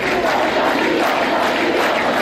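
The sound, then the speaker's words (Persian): A large crowd of students chants and shouts "freedom" together at Ferdowsi University of Mashhad, a dense, steady roar of many young voices that stays loud and unbroken throughout, with no single speaker standing out. “و آزادی در دانشگاه فردوسی مشهد هم فریاد زده می‌شد.”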